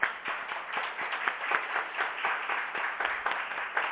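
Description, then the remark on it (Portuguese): A legislative chamber (Câmara) full of people applauding a woman, a retired sergeant and disciplinarian at the Colégio Tiradentes; a dense, steady patter of many hands clapping at once with no talking, holding a fairly even loudness throughout. “Essa mulher, ela é digna de aplauso e eu gostaria que a Câmara aplaudisse ela.”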